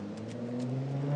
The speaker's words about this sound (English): Very loud car going up Millbank towards Parliament Square.